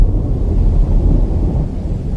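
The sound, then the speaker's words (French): Deep, continuous thunder rolls low and heavy through a stormy backdrop, a sustained rumble without pause, fairly loud and broad, with no voices present. “Mais mince, l'orage arrive et l'eau inondait la pièce.”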